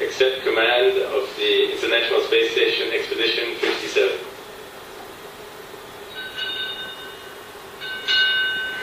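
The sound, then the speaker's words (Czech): A ship's bell is struck three times during a change-of-command ceremony aboard the International Space Station. Each clear metallic strike rings out with lingering overtones, spaced apart, after an opening stretch of muffled voices and busy background noise. “No a bylo to včetně zvonění, těch 3 úderů na zvon.”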